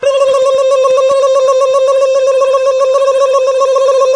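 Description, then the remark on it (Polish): A loud, steady electronic telephone tone hums without a break for several seconds, a single pitched drone of an outgoing call, made about a boutonniere, waiting to connect, with no voices over it. “wykonałem telefon w kwestii butonierki.”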